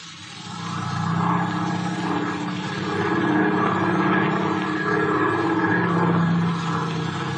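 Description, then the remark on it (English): The engine of the propeller airplane Mr. Slattery took drones loudly and steadily as it flies off, swelling up within the first second and then holding a constant, throbbing roar throughout, with no voices. “Why did he take the plane?”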